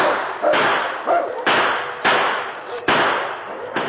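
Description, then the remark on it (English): A rapid series of sharp, loud gunshot blasts as a sergeant reloads and fires at a wolf pack at night, about six shots at uneven intervals, each burst trailing into a dense roar of noise before the next one hits. “The sergeant reloaded and blasted away again.”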